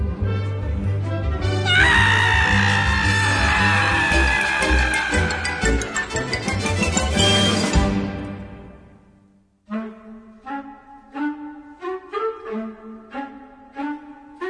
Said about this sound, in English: Hysterium! Scream.